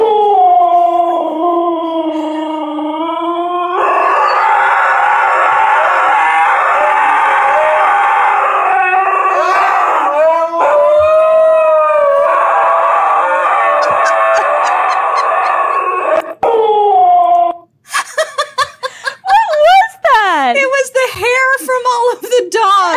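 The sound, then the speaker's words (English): A husky howls and yodels, a long drawn-out wavering cry that rises and falls almost without pause, turning choppier with yips and grumbles toward the end. “Okay, one more husky.”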